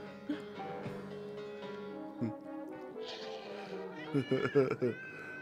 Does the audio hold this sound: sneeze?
no